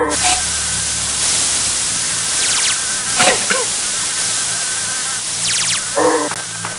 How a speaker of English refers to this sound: Insect spray.